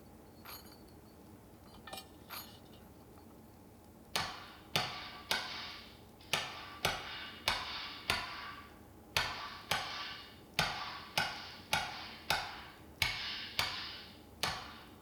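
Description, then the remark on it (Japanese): Sharp metallic hammer blows on a kitchen knife being forged after heating in the fire ring out in a steady rhythm, a few sparse strikes at first, then a regular series of bright, clanging hits on metal with short ringing decays. “また火にくべてガンガン。”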